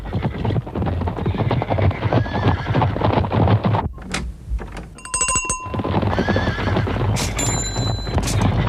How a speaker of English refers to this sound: And now a herd of zebras visiting the same chemist to ask for something for the weekend!